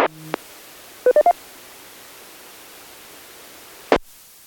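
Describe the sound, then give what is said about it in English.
Three quick touch-tone keypad beeps dial an extension on a phone plugged into a router, ringing another amateur radio operator who has the same phone, over a steady hiss of static, bracketed by short bursts of radio squelch noise at the start and near the end. “I can plug it into my router, and I just dial an extension, and I can ring another ham friend of mine who has the same phone.”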